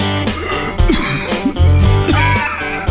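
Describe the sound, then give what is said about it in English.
A loud coughing fit: several harsh coughs come in quick bursts, one after another, over a steady tonal hum in the background. No one speaks. “If you have a chronic cough, wheezing, emphysema, or other trouble breathing”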